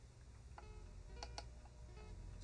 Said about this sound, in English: I'm going through my computer again here, as all those clicking noises are.